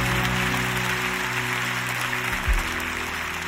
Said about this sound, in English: Clap your hands if you believe God has a word for you today.